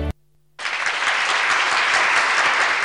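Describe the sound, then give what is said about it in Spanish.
A crowd bursts into loud, sustained applause after a brief silence, the dense clapping continuing steadily without a break to the end, with no voices heard over it. “Un fuerte aplauso.”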